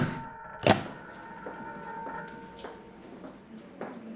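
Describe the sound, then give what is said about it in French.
A door slams shut with one loud, sharp bang, followed by several fainter knocks and clunks, over a steady low hum with no talking. “Et puis des portes qui claquent dans beaucoup de sens.”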